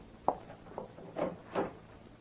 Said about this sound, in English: He's not in the filing cabinet or under the desk. Hey, Brooks, he opened the closet door and showed Dale he's not in there pointing a gun at her head.